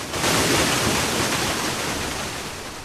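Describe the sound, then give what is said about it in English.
A huge tsunami wave from Thera roars and crashes in a dense, continuous rush, loud, holding its thundering hiss for about three seconds with no voices; the wave rises at least 65 feet above sea level, travels up to 5 miles inland and swallows a city. “The wave swallows the city.”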